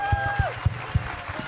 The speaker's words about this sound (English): Before we go off, though, I'd love to give a huge round of applause to our wonderful guests.